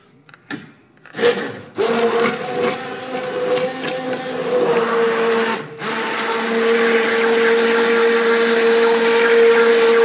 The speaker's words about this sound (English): But where the immersion blender just goes in there. It just goes right into the pan.